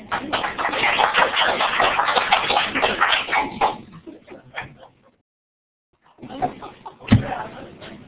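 A single sharp hand clap rings out after a brief pause, following several seconds of loud shuffling and rustling, with softer movement noise around it.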